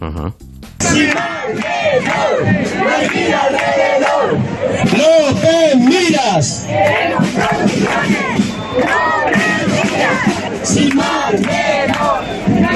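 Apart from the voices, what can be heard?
protest demonstration crowd chanting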